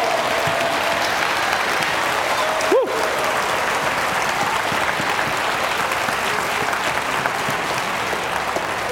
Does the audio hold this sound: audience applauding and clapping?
yes